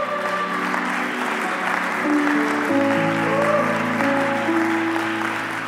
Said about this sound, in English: Anybody believe that? Come on, clap your hands unto him.